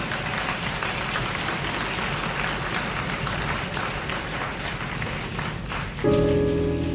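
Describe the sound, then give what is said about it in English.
A crowd applauds in a dense, steady roar of clapping for several seconds, then a sustained musical note cuts in near the end as the applause continues underneath. “Well, come on, clap, damn it.”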